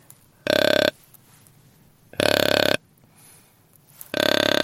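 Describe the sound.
Three loud, buzzy grunts from a deer grunt call pressed down further to imitate a bigger deer, each about half a second long and deep and raspy, separated by roughly one-second pauses. No one speaks.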